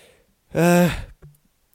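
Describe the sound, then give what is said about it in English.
A single voiced yawn, a drawn-out open-mouthed breath with a sagging pitch lasting about half a second, followed by a soft exhale. “Yawn!”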